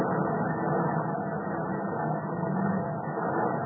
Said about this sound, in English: That's the ship's pipes breaking up.